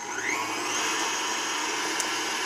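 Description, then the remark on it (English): A steady electric motor whirs continuously, a mixer whipping five egg yolks and a tablespoon of vanilla into a smooth mixture for an Italian cream cake, its broad buzzing hum holding an even level with a faint rising whine early on and no talking. “All right, now I'll whip this together.”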